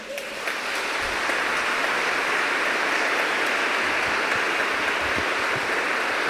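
Sustained applause from a crowd for Professor Anna Olszewska, a guest at a radio competition event, a dense steady patter of many hands clapping at an even loudness for several seconds, with no voices.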